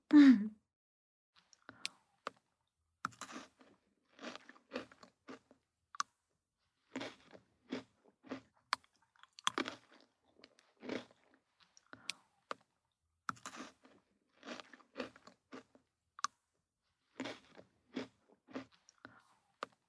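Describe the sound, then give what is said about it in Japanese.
Crisp crunching of Pocky chocolate-coated biscuit sticks being eaten, a steady series of sharp snaps and chews in bursts across an otherwise quiet room, with no talking. “なんかさ、静かな部屋にポリポリってポッキー食べる音だけ響いてるって面白いね。”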